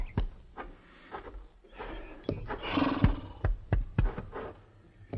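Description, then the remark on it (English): An agitated bay horse stomps a man, its hooves landing in a string of heavy, irregular thuds, while a loud, harsh neigh rises in the middle. No one speaks. “Yeah, stomped him to death. Looks like that bay had enough of Ira, too.”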